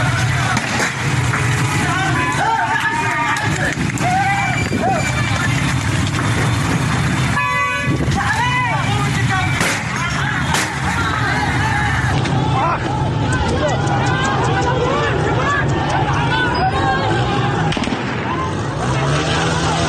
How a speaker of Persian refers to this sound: بشنویم با هم صدای شلیک گلوله ماموران به معترضان رو.